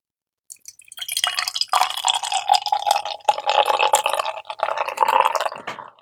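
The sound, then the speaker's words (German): Krombacher beer is poured steadily into a tilted glass for about five seconds, a continuous gurgling splash with a bright fizzing hiss, and no one speaking. “Ein Glas habe ich noch. Moment, ich halte es mal schräg.”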